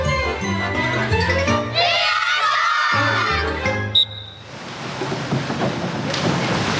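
Several seconds of echoing, tonal background sound give way to a sharp impact and a loud, lingering rush of water as a child jumps headfirst from the one-metre diving board into a swimming pool, through a small ring thrown into the water.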